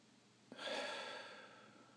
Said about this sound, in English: So let's begin with three deep cleansing breaths. Breathing through the nostrils deep into the belly.